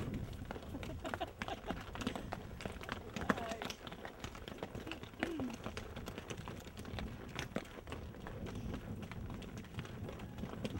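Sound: horse hooves clip-clopping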